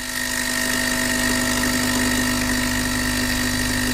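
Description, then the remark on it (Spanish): A capsule coffee machine brews with a loud, steady pump drone, a buzzing hum with a couple of sustained whining tones that holds unchanged throughout, with no voices. “Estamos haciendo un café de esos de cápsula que hacen tanto ruido.”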